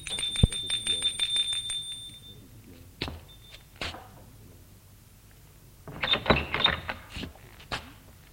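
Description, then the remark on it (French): A doorbell rings in a rapid, buzzing metallic trill for about two seconds, followed by scattered clicks and a burst of rattling mechanical noise, with no one talking. “Il sonne à sa porte avec un bouquet de fleurs.”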